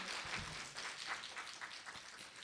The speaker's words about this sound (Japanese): 以上をもちまして第20回の講演会および私の主張を終了させていただきます。今一度拍手をお願いいたします。